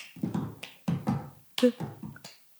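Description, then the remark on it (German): Rhythmic claps and taps with a cup in the pattern of the cup song, a quick run of sharp percussive hits with brief pauses between groups, played alone without talking. “Und dann folgt aber auch noch, da haben wir diesen Cup-Song performt.”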